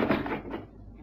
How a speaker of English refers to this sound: Come in. Close the door.